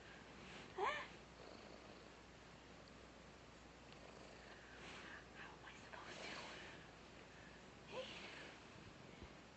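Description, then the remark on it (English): A cat purrs softly and steadily throughout, a low rumbling texture with faint breathy murmurs of a quiet voice rising briefly over it. “Kitten cat, look what's down here.”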